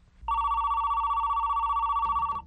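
A telephone rings in one long, steady warbling burst lasting about two seconds, loud, with no one speaking over it.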